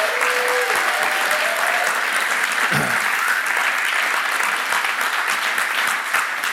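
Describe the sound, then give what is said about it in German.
A church audience claps steadily and loudly for the sound technician, a dense wash of applause that fills the whole stretch without pause, with faint voices mixed in. “Deswegen gebt ihm nochmal einen fetten Applaus.”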